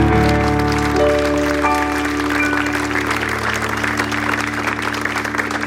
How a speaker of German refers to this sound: Kleiner Applaus für euch. Dankeschön fürs Mitmachen.